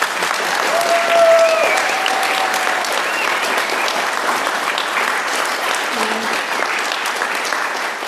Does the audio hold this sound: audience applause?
yes